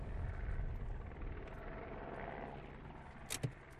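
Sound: military helicopter flying overhead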